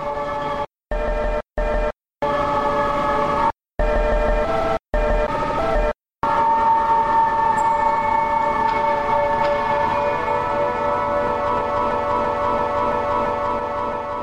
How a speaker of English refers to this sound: There's just a ton of different things that you can do to just mess up the audio file itself and just kind of get these messed up weird tones.